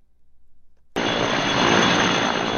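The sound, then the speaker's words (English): After a second of low rumbling, a loud, dense roar suddenly bursts in and holds steady, as helicopters overhead dump water and fire-retardant chemicals on a wildfire threatening homes near Boulder, Colorado. “Sound of helicopters dumping water and fire-retardant chemicals on a wildfire that's threatening homes near Boulder, Colorado.”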